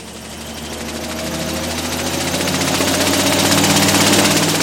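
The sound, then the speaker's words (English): Large wind machines on a blueberry farm sputter to life on a cold night: a rapid, rattling engine chug with a low droning hum that steadily builds in loudness as the motors rev up. “Then giant wind machines sputter to life.”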